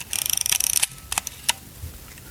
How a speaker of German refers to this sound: Dann tun wir die Kamera 1 aufziehen.